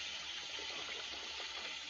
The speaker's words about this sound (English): Splashes water on his face.